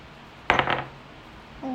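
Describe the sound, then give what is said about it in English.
A die is rolled across a hard tabletop during a role-playing game to get a number, a quick burst of rattling clicks that settles within a fraction of a second, followed by near silence. “here, roll this dice and tell me what number you get on it.”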